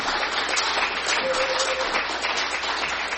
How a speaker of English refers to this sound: So let's just encourage him with a clap to the Lord for his life.